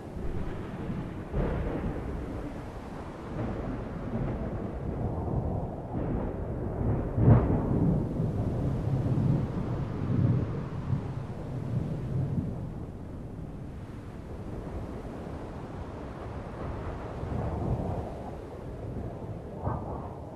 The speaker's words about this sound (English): Approaching dark grey clouds flash with the electrical energy of a storm.